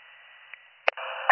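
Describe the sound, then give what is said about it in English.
Narrow-band radio hiss runs steadily on a portable radio, broken by a faint click and then a sharp crackling pop before the static swells louder and rougher for the rest of the moment. No one speaks. “Kind of, it's mostly static on the portable.”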